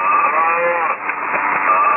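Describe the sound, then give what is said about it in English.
A cow moos in a long, drawn-out bellow that fills the whole two seconds, loud, with a muffled, narrow tone like it's coming through a phone or radio. “This is an honor talking to my great-grandfather, the cow.”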